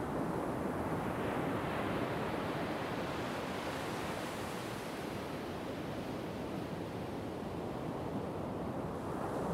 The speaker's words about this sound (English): The rolling waves are doing what they do. Building, peaking, falling, breaking, bubbling. Rolling into the shore, then dispersing onto the sand and fading back into the oncoming waves.